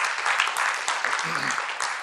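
An audience claps again to thank speakers who shared their personal story about their daughter, a dense continuous patter of many hands with no pauses, filling the whole stretch at a fairly loud, even level.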